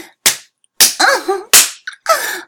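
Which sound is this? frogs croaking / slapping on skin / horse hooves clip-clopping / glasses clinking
slapping on skin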